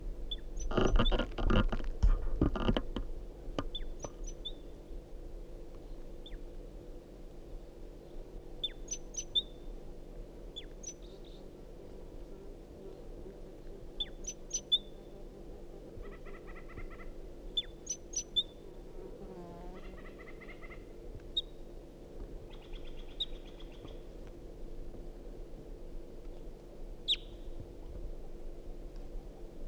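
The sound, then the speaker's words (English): A wild bird calls in short, high chirps and brief trilled phrases, scattered irregularly over a steady low hum, after a loud rustling burst at the start. “Wild bird.”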